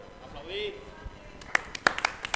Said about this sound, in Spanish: Aplaudid, venga.